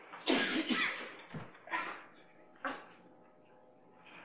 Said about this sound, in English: No, I just pulled my neck out. Sneezing. I turned my head to sneeze and then just went. It hurt.